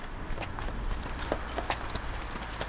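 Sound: horse hooves clip-clopping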